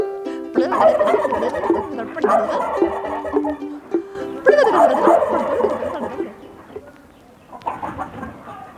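Several turkeys, called over to be fed grain from a small bucket, gobble in loud, rapid bursts, two long rolling volleys followed by a shorter one near the end, with a busy barnyard clamor of overlapping calls and no speech.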